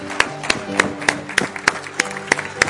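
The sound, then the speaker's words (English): An audience claps for the Lord together in a steady, even rhythm, roughly three claps per second, loud, with sustained music and a faint murmur of voices underneath. “Let's give the Lord a clap.”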